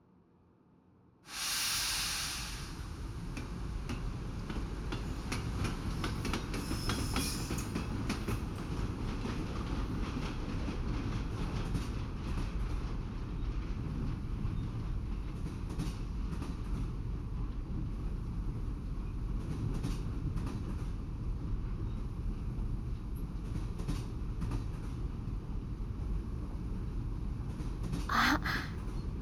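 A train departs with a burst of hissing, then settles into a steady rumble of wheels running on rails through unfamiliar country, with occasional rattles and clacks throughout and no voices.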